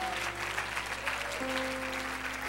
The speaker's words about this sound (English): In the name of Jesus, I wonder, would you clap your hands to heaven? Shout to him.